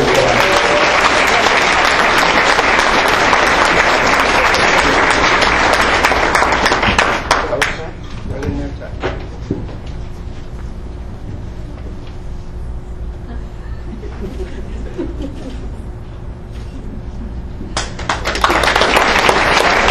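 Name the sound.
round of applause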